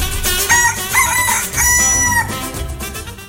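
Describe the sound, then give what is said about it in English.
A speckled rooster crows loudly, its strained, harmonic call rising and stretching out in a couple of long bursts with no one speaking. “People have asked me why Mom and Dad didn't serve the great speckled bird for Sunday dinner.”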